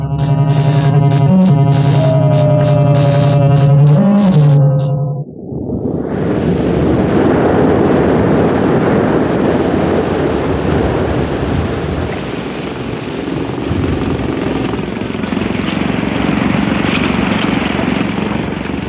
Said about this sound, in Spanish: Hubiera sido preferible prescindir de esta lancha motor y haber usado mi auto.